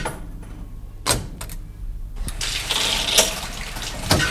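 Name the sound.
water running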